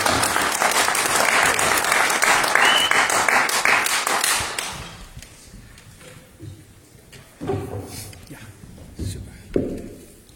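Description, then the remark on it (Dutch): An audience applauds loudly and steadily for about four seconds to welcome a speaker, then the clapping fades out, leaving a quieter space with scattered shuffling and a few voices. “Misschien kunnen we best een applaus geven en verwelkom.”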